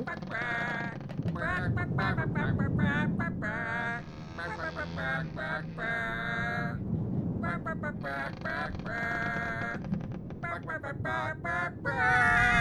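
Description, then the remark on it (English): Several chickens cluck and squawk in a busy, overlapping chorus, nasal calls tumbling over one another almost without pause for the whole stretch. “Please, could you sing the Gummy Bears theme tune from the 80s for Jen, please?”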